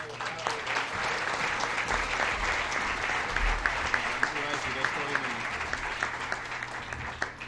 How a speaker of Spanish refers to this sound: A todos los funcionarios del ministerio, de todas las empresas vinculadas, los aplaudimos de todo corazón.